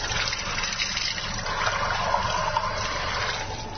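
Water pours steadily into a small džezva coffee pot for a few seconds to make coffee, a continuous splashing trickle with no voices.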